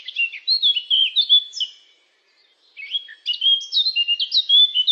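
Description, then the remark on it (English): A Eurasian blackcap sings rich, rapid warbling phrases while flying by, bright, with a short pause in the middle before a second fluty burst of song. “Cheep, cheep, cheep, cheep, cheep, cheep, chirps a Eurasian blackcap while flying by.”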